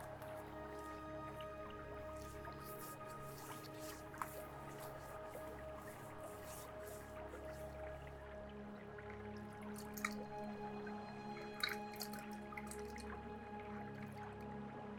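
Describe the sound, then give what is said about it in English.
Soft, wet squishing and dripping sounds continue steadily, as gelatinous, jelly-like hands massage skin, with a few sharper squelches standing out and no one talking. “Yeah, it's like being massaged by jelly.”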